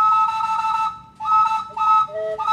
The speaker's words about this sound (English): That's an old-fashioned steam calliope, which was a thing that you'd see a lot at a carnival or on a riverboat hundreds of years ago. This calliope was designed by luminaries in the worlds of art and jazz.